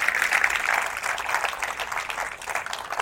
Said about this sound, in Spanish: Puede decir un fuerte amén y darle un fuerte aplauso al Señor. Ese es el Señor.